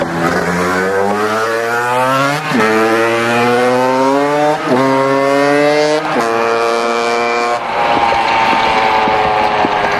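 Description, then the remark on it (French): A moped engine pulls away as its rider leaves, its buzzing whine climbing in pitch, dropping sharply at each of four gear changes, then climbing again. Loud and continuous throughout, with no voices. “il a repris sa mobilette, il est reparti avec son drone électronique, avec biréacteur, etc.”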